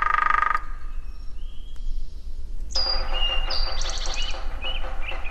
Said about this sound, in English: recorded 2 hairy woodpeckers several years ago at the Quabbin Reservoir in a kind of call and response.